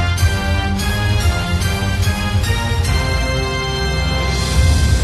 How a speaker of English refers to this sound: Oh, it's time for our new quiz. What? Play the music.